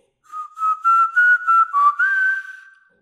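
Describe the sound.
Someone whistles a short tune, a quick run of five or six clear notes that flow together before ending on one longer held tone. No voices accompany it.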